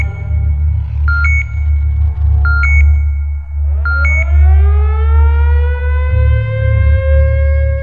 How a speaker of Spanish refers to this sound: Estaba a punto de decir que suena diferente, pero esa alarma indica que se activaron los sensores de movimiento en el perímetro de la Fonoteca de Babel. Parece que alguien quiere entrar.